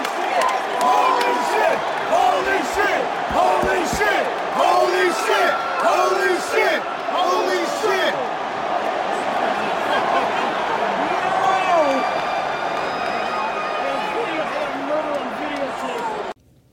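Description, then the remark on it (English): A wrestling crowd roars in reaction to a wrestler's bump, a dense, loud wall of overlapping shouts, whoops and cheers that holds steady for about sixteen seconds before cutting off abruptly. “Yeah, the crowd, it was so cool to see that kind of bump.”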